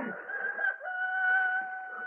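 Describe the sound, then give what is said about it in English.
A rooster crows in one long, sustained call, loud and shrill with a steady high pitch that holds for a couple of seconds before trailing off. “the cock crew.”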